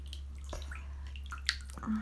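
Quiet water sounds in a bubble bath as a person relaxes in the tub: a few scattered drips and small splashes over a low, steady background hum, with no one speaking.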